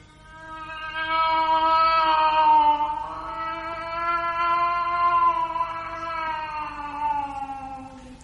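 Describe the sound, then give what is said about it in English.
A cat cries in one long, drawn-out wail lasting several seconds, its fairly high pitch wavering slightly as it rises and dips, loud and unbroken with no talking. “It's only the cat.”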